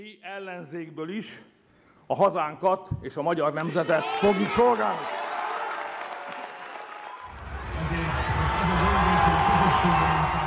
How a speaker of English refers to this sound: Reaction in the huge crowd lining the shores of the Danube opposite the parliament was instantaneous.